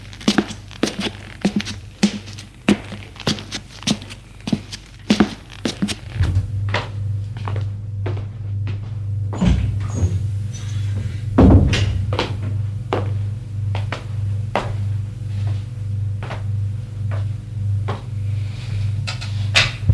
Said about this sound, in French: premier étage, une porte s'est ouverte. C'est celle du bureau.